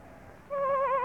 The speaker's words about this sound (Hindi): वो ठिटक कर खड़ा हो गया और सुनने लगा। फिर आवाज आई। तब गडरिये ने पहचाना कि ये उसी की भेड़ की आवाज है।